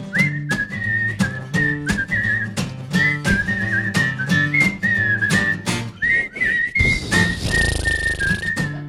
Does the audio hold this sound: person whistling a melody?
yes